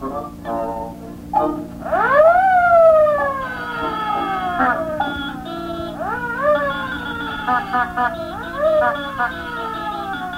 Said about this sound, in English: Trying to sneak past, eh? Didn't figure on my setting an alarm, did you? Well, you got fooled.